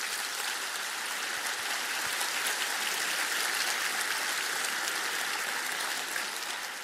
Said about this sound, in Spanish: Y vamos a darles un aplauso a las mujeres de Dios.